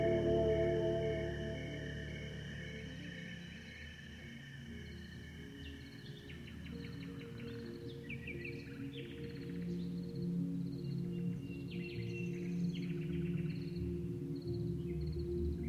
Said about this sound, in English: the birds sing all night on her farm in the Loire Valley. She never thought twice about it. This is the night she knows. But I was stunned because midnight sounded like sunrise.